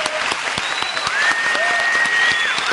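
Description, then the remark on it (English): A crowd applauding steadily, dense clapping at a constant loud level throughout, with a few high whistles sliding over the top of the noise. “Listen to that crowd.”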